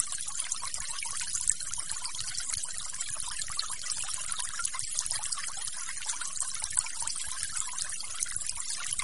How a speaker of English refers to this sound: my room only had one, was an outer room where we could open the windows and look down at the interior garden and listen to the waterfall.